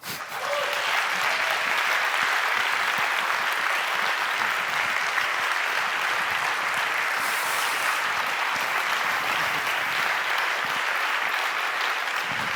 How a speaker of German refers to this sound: eben geklatscht, aber ich bitte euch nochmal zu klatschen, weil mindestens einer von Fossil Free Berlin ist heute hier im Saal, der mitgearbeitet hat daran, dass Berlin, was die Pensionsfonds angeht, fossilfrei geworden ist und das ist sein Applaus.